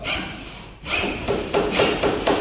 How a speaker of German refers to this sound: Ja, Sie hören richtig, das klingt nach Baustelle.